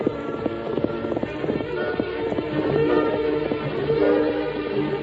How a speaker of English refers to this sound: You know, seems like ever since that masked fella rode out of here, I keep hearing that horse of his. I keep hearing them hoofs a-pounding and pounding.